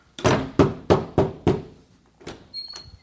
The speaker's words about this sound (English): If I'm standing at the door knocking. If I'm standing at this door knocking, I'm doing something.